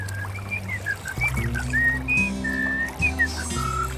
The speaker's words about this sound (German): Wie schön die Vögel singen.